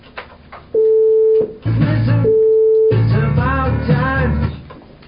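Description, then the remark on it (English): A steady, pure electronic tone made with the Generate Tone function of an audio editor sounds twice, each burst lasting under a second, alternating with busier voiced sounds that fill the gaps and continue afterward. “Can you show me the tone one more time?”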